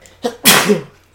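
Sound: a person sneezing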